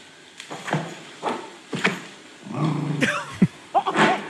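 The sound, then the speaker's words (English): A dog, Zig, growls at a corner of the couch, a low rumbling snarl rising between short, sharp bursts of sound that come in a loose, uneven rhythm, with no talking. “Oh, she was just staring, growling and barking at a corner of the couch last night and I could not work out what was going on, but it spooked me.”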